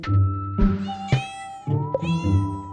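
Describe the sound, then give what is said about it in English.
A kitten meows repeatedly and insistently, with four or five drawn-out, high, whiny calls in close succession, with no talking. “So I had two kittens.”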